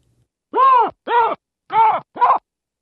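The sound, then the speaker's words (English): Four loud, harsh barks from female baboons in a ragged sequence, each a short nasal burst with a falling pitch contour, sounding in alarm at a lion. “And that's a chorus of females giving barks to what was a lion on that occasion.”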